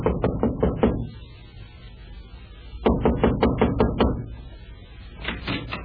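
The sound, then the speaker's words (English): Two bursts of rapid, firm knocking on the wooden front door of a home in the early evening, about five or six raps each, with a pause between them and a softer third flurry at the end, clear with no voices. “we find him knocking on the front door of Squire's home”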